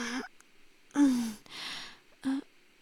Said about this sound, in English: I didn't say anything. I just yawned. Yep, I'm pretty tired.